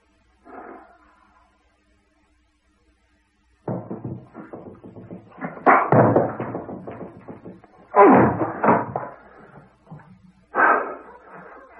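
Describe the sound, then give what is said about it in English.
A heavy door lock being forced open: a faint knock, a pause, then loud rattling, scraping and banging in irregular bursts, with three especially hard slams toward the end. “Couldn't we force the lock?”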